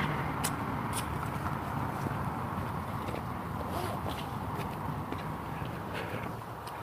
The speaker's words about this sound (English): Cars, cars, everywhere there's cars.